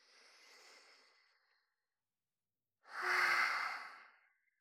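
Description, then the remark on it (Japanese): Two breaths: a soft, airy inhale lasting about a second, a brief pause, then a louder, fuller exhale with a faint tonal edge that trails off. No talking. “もうすでに私が息をすると、私の口から吸い込んだ空気が、その触手の管を通して、あなたの口に送り込まれるのが感じられるでしょう？”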